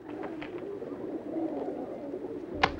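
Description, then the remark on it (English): A flock of pigeons lands on and fills a climbing frame, cooing in a steady, murmuring throng, with quick bursts of wing flapping near the start and a sharp flutter near the end. “Looking a little unsettled, Richard turns round to see the frame filled with a flock of fluttering pigeons.”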